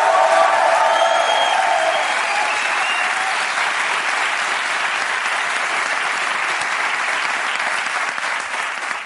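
An audience breaks into sustained applause, a dense, steady wash of clapping that stays loud throughout, with a few brief cheers or shouts mixed in at the start.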